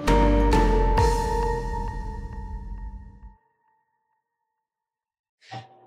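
A doorbell rung by children several times in quick succession: three bright, overlapping chime strikes ring out loudly and slowly fade over a few seconds, then silence before a brief burst of another sound.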